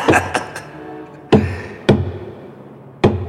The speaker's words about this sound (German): Lass das sein. Was? An den Sarg klopfen. Ich hab nicht an den Sarg geklopft.